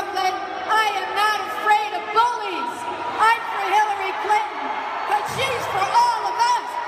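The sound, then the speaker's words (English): At a Democratic convention in Nevada, a large crowd of Bernie Sanders supporters boos Senator Barbara Boxer loudly and continuously, many overlapping voices forming a dense, wavering roar with scattered shouts rising through it for the full seven seconds. “Keep on booing and boo yourselves out of this election.”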